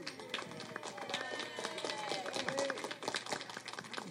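A crowd claps steadily for about four seconds, a dense patter of overlapping hand claps at a moderate, fairly even level, with faint voices mixed underneath.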